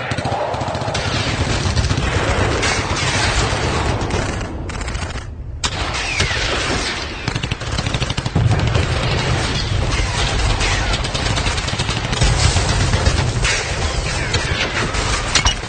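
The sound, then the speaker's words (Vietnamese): Sustained bursts of gunfire as French troops arrive crackle and rattle almost without pause, dense overlapping volleys with heavy low thuds beneath, loud, briefly thinning near the middle before resuming. “Mấy loạt súng đua nhau xé không khí, loạt đạn đùm đùm, cắt bùm, nổ khiến cho mọi người tưởng dân quân địch đã tiến sát bên cạnh và đã có mặt ở tứ phía.”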